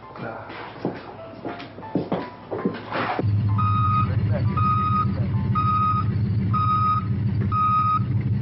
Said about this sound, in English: Oh, the ambulance is here.